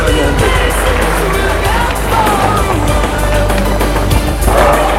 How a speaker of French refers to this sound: Tout le monde applaudit.